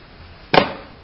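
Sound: knocking on a door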